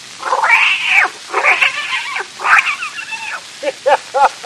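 A kitten meows repeatedly, high: several long drawn-out mewls followed by a quick series of short, sharp squeaky meows near the end, with no talking.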